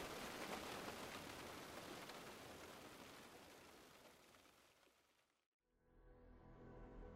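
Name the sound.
pouring rain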